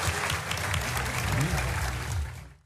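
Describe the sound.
An audience claps steadily for the panelists at the end of a panel discussion, in a dense, sustained wash of applause for a few seconds, with a low murmur of voices underneath before it fades out.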